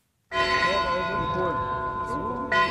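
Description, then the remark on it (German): An old mine bell mounted on a theatre building in the Gartenstadt Marga works settlement rings out loud to open a festival, its resonant metallic tone sustaining, then struck again near the end, with faint voices murmuring underneath. “Die alte Bergwerksglocke, die Sivan Lachinian am Theatergebäude anbringen ließ, läutet das Festspiel ein.”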